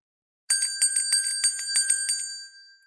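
A bright, high-pitched bell rings clear with a quick series of rapid strikes that fade out slowly, heard alone without any voices.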